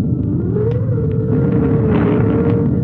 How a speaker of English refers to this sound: It is a dark and stormy night. Outside, the wind is howling and whistling.